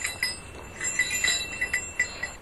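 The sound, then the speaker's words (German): Small bells clink and jingle irregularly as goats gather together at a gate on an alpine pasture near Oberstaufen, with soft shuffling in the background and no one speaking. “Die Ziegen sammeln sich sofort am Gatter.”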